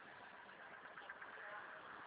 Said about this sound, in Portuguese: Um pouquinho, estou escutando, está no caminhão.